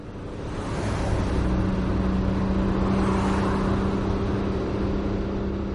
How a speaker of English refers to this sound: I set off at 6. It was still dark when I put my suitcase in the car and drove off.